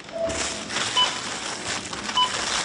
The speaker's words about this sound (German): Die Kasse klingelt in diesem Lidl-Markt in Ismaning.